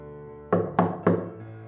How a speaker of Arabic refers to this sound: في اللحظة دي الباب خبط، اتخضيت.